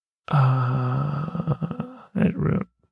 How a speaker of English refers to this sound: Oh, darn yawning.